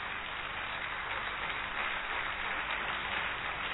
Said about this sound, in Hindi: उसके बाद मधुर वाणी ग्रुप है, उसने हमें बहुत सुंदर गीत सुनाया और ये युवाओं ने जो डांस किया कितना अच्छा लगा, लगा ना अच्छा, तो जोरदार तालियां बजाएंगे उनके लिए थोड़ा सा।